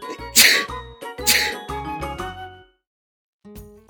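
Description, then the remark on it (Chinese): A voice acts out a quick string of sneezes by a cuckoo clock character in a story, its nose itchy from ants crawling on it: two sharp breathy bursts among several voiced, tonal ones. A short pause follows before another voiced sound begins. Fairly loud. “” 说完，又冷不防地打了几个喷嚏。”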